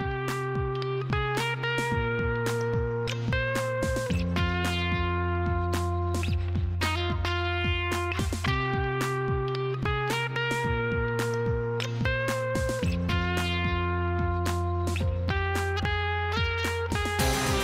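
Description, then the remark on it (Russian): An effects-laden electric guitar solo plays over a steady drum beat and sustained bass notes, loud and continuous, with no voices. “Гитарная партия то застывает в статике, то устремляется куда-то вверх.”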